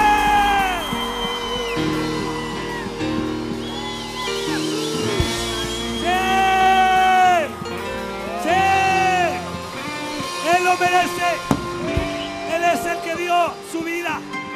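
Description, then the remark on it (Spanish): An audience shouts and yells together in worship, praising the Son of God, many voices whooping and crying out at once in loud, overlapping waves that continue nearly throughout, over a steady low musical hum. “¡Hijo de Dios! ¡Un grito!”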